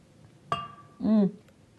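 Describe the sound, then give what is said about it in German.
A single bright clink of glasses touching in a toast, ringing briefly, followed by a short voiced sound from someone; otherwise quiet. “Es ist ein Unentschieden, wir müssen ihn beide trinken. Prost!”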